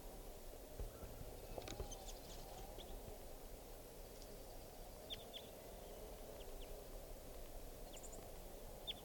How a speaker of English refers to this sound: Recording now, it sounds like a bird is crossbill song here. I think it's a type 4 juvenile.